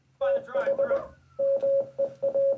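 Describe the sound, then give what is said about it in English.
A steady, mid-pitched electronic tone keys on and off in short and long Morse code beeps, in two bursts separated by a brief pause, loud, with a voice murmuring underneath the first burst. “All right, I'm exporting the Morse code.”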